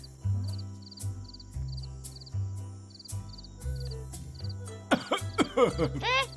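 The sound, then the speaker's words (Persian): A short run of several harsh coughs comes near the end, fairly loud, after a stretch of low droning background with faint, regularly repeating high chirps. “هیچی داشتم سرفه میکردم.”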